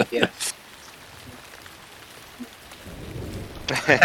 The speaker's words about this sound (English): The lightning is deafening.